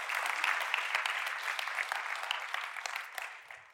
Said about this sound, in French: Est-ce que je peux entendre un amen? Yes, on peut applaudir le Seigneur pour ça, ça vaut la peine.